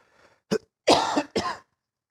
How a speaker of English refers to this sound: I haven't coughed in hours until I get on stage. It's okay. I probably won't die right in front of you.